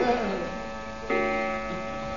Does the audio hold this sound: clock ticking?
yes